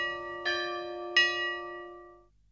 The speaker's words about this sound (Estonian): Saate kõllis kirikukellad helisevad ja ei ole lõpetanud helisemist ka praegusel talve lõpuperioodil, mil tõsi alates tänasest on kirikud ja kogudused avalikeks jumalateenistusteks ja talitusteks suletud.